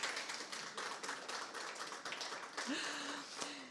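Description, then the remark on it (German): An audience applauds a film artist with steady, dense clapping that carries on without pause for a few seconds, with a faint tonal whoop or whistle rising briefly near the end. “Ein Applaus bitte.”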